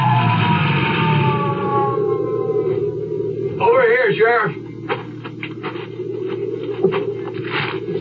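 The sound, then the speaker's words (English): A sheriff's Jeep siren whines in long rising and falling tones, with its red flasher blinking, as it heads for the bottom of a ski run; loud and steady at first, then fades under a rumbling engine with a brief wavering cry and some clattering noises. “Well, I got the Jeep started without too much trouble and headed for the bottom of the ski run with my red flasher blinking and the siren whining.”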